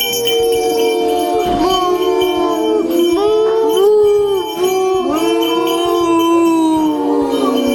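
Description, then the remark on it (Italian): A group of children imitate cows, drawing out loud overlapping moos with sliding pitch that carry on almost continuously, with no ordinary speech in between. “Allora, mentre mi fa così, facciamo il verso delle mucche, vai!”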